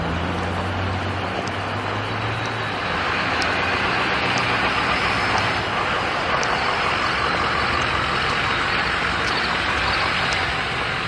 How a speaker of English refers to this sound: Ah, the dulcet tones of a diesel engine.